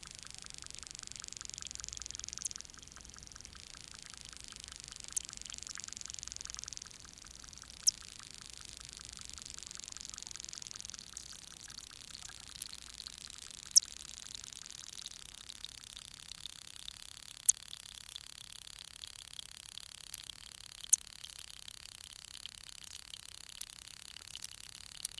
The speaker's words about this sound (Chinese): 虎尾藻是一种有着美丽绿色的植物，但它有时也被视为侵入者，善于传播和占据池塘的所有空间。它有许多让它可以在水面下呼吸的小叶子，能制造一长串由光合作用产生的微小气泡。